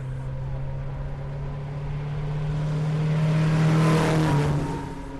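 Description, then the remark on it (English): A car engine hums with a steady, rough drone, growing louder as it approaches, peaking, then fading slightly as it passes by, climbing a hill during a timed hill-climb run. No voices are heard. “As I watched the cars cough and clatter by, most of them covering the distance in between 35 and 50 seconds, I noticed a woman who was meticulously recording the results of each run.”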